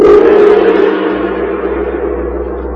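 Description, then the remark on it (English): A single heavy stroke of a great gong, heralding a story on the radio series The Sealed Book, blooms out loud and then rings on, its shimmering, humming overtones slowly fading while a deep low drone lingers underneath. “And the great gong heralds another strange and exciting story from...”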